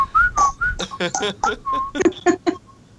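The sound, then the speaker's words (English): Several short whistled notes, some sliding slightly in pitch, alternate with breathy, airy bursts in a quick, uneven rhythm, with no voices speaking. “And then some whistles.”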